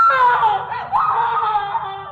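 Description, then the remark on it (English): A woman screams loudly, a sustained high-pitched wail lasting about two seconds, briefly wavering midway before carrying on, with no talking. “And I saw... heard her screaming.”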